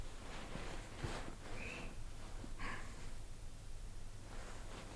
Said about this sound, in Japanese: 耳澄ませて、私の息遣い聞こえる？